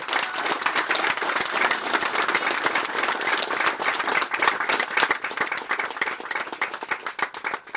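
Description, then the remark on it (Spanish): A crowd applauds in honour of murdered comrade Ulises García Martínez, steadily for several seconds, a dense wash of many hands clapping at once with sharp individual claps standing out, fading slightly toward the end. “Y un aplauso para él hasta donde está.”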